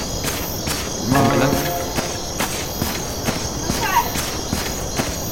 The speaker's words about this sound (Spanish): Está de noche. Cuando hace este sonido de grillos es porque está de noche.